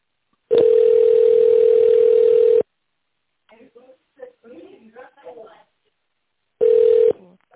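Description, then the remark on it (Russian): A telephone ringback tone, heard while a call waits to be answered after an automated greeting, sounds as a long, steady low-pitched beep, followed by a few seconds of soft, muffled speech, then the tone starts again briefly. “Если вы знаете внутренний номер сотрудника, наберите его в тоновом режиме или дождитесь ответа.”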